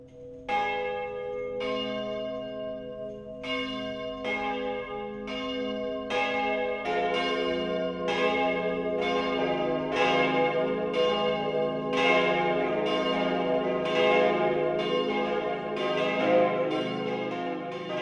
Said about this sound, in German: Das Mittagsläuten kommt heute von der Stadtpfarrkirche St. Andreas im oberpfälzischen Parsberg.